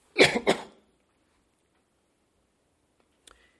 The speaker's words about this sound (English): Pardon me, I'll have to clear my throat.